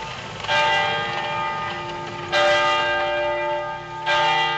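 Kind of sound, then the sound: signal or alarm, church bells ringing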